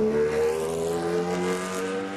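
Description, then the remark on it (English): A NASCAR race car engine roars loudly and steadily at a speedway, its high, buzzing tone sustained for a couple of seconds with no one speaking, like the race car driven by Ricky Bobby in Talladega Nights. “In Talladega Nights, when Ricky Bobby wanted to go fast around a NASCAR speedway, he drove a race car that sounded something like this.”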